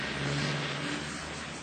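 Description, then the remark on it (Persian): A milk-carrying truck's engine rumbles steadily as it drives along, a low droning hum under broad road noise, fairly loud, easing slightly toward the end. “گربه ها و موش کوچولو به بیدرنگ عقب ماشین پریدن و از شانس خوبی که داشتن ناگهان متوجه شدن که سوار یک کامیون حمل شیر هستن.”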